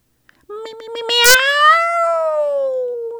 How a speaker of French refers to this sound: Miaou! Fait mon chat. Allez, Alfredo, on rentre.